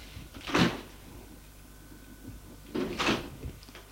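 Two solid knocks on a wooden door, spaced a couple of seconds apart, each a dull moderately loud thud with a faint rattle, against a quiet background and no voices.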